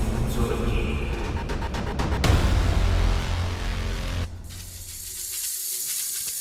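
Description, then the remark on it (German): A giant snake, Cobra Khan the snake lord, hisses loudly while spraying corrosive venom toward a microphone, a dense continuous spray with a strong burst midway, then thinning into a sharper, airy hiss. No voices. “Da ist eine riesige, unheimliche Schlange.”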